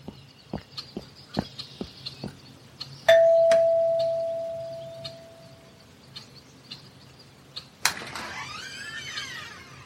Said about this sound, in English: Shall I ring the bell? Ring it.